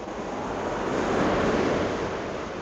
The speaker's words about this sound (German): Wasser. Jetzt kommt das Wasser wieder näher.